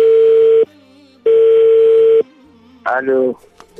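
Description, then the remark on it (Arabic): A steady telephone busy tone after the line was cut off during a call recorded by Radio Free Iraq, sounding twice in loud, even pulses, each lasting well over half a second, followed by a brief burst of a voice at the end. “وأيضا سجلنا عندما انسد التليفون، يبدو لمخاوف معينة انتابتهم”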